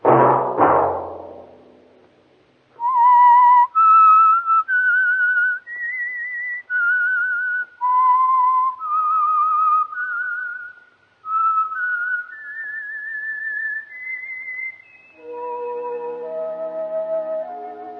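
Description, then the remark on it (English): A lone, clear whistled melody moves through a dozen or so distinct sustained notes, rising and falling in pitch, after a brief low rumble, and ends on a soft sustained instrumental chord; the whistle is the theme signal of a Sunday-night radio program. “That whistle be your signal for the Signal Oil program, The Whistler, each Sunday night at this same time.”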